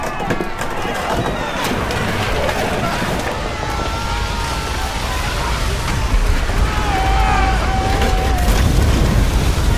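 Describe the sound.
A light gust of wind blows softly and steadily, swelling slightly toward the end, mixed with a murmur of voices and faint tonal creaks in the background.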